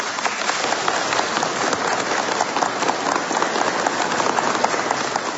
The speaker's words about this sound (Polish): Kochani, bardzo serdecznie witamy i pozdrawiamy na samym początku słuchaczy Radia Maryja, którzy w tym momencie są razem z nami. Pozwólcie, że ich przywitamy gorącymi oklaskami.